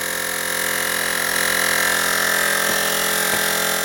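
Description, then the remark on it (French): An inflation pump's motor runs continuously while inflating a tyre with an inner tube, a loud buzzing whine with a steady pitch and a few faint clicks, no speech; the motor slows as the tyre becomes firm. “Et puis on a aussi cet indicateur du moteur de la pompe qui est en train de ralentir.”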